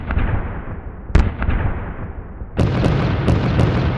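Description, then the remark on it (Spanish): Explosions go off all around in a city, heard from inside a bedroom: continuous rumbling blasts and booms, with sharp cracking bursts cutting through at intervals and a louder, denser barrage starting partway through. No one speaks. “Fui a mi habitación y lloré mucho, mientras escuchaba explosiones por todos lados.”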